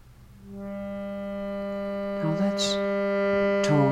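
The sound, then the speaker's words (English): A single voice chants a long, steady Om, holding one resonant humming pitch for several seconds at a moderate level, with a brief breathy hiss partway through. “And finally, the symphony of all sounds, the mother of creation, the sound of Om, a mighty wind, thunderings and lightnings, the crash and roar of the great sea.”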